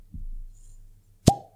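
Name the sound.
cork pulled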